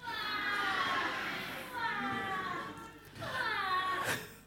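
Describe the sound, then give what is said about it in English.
A baby cries in three long, loud wails, each high and strained with a pitch that slides downward before breaking off, separated by brief gasping pauses. “Suddenly, the peace and quiet was shattered by a strange, awful noise. It was a baby crying.”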